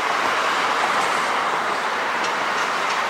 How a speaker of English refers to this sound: On a noisy street in Queens, industrial buildings stand next to car dealerships. The elevated subway train rumbles nearby.